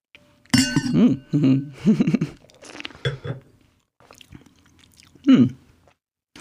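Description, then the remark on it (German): Glass clinks, then slurping sips as a very dry red wine is tasted, drawn in and swirled in the mouth, with a few short wet bursts and quiet pauses between them. “Jetzt probieren wir mal kurz. Ich muss ihn selbst probieren.”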